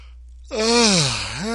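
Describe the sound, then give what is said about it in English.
A single long yawn from one person, rising in pitch then sliding down into a low groaning drawl before lifting again at the end, fairly loud with no talk around it. “I think the yawning.”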